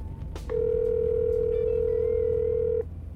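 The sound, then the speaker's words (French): A steady telephone call tone, heard before a rescue line answers, holds at one pitch for just over two seconds, then cuts off abruptly. A brief click comes just before it, with a low background hum throughout. “le sauvetage c'est simple comme un coup de fil.”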